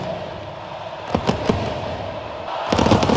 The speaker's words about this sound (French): Oui, vous l'entendez, un stade de 84 000 supporters en fusion, une ferveur qui donne la chair de poule. Et les joueurs de l'Albicéleste en pleurent. Voilà comment résumer le premier match des Argentins depuis leur sacre au Qatar.